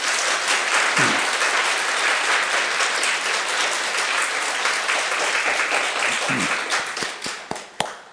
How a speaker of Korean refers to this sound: 네, 우리 박수 한번 칩시다.